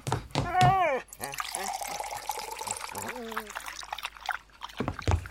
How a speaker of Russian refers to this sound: Фух, надо Алтаю воды налить. Сейчас.